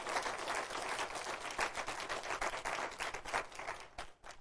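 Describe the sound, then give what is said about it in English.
An audience at New Hope Baptist Church breaks into steady applause to approve a motion affirming deacons, many hands clapping in a dense wash that holds for several seconds before thinning out abruptly at the end. “Well, if you're in favor of the said motion, would you signify by a round of applause?”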